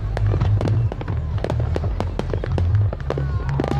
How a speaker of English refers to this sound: Millions of Americans are celebrating. Those fireworks were over Austin.